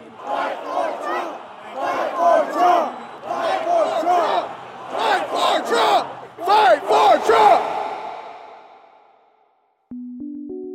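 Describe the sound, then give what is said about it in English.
A big rally crowd in Georgia chants a repeated phrase in loud, rhythmic unison as Senate candidate Perdue walks off the stage, the voices rising and falling together before trailing off. A brief electronic tone follows. “In fact, as Perdue walked away, a different chant started taking shape. A chant about exactly what the crowd wanted the Senate candidate leaving the stage to do.”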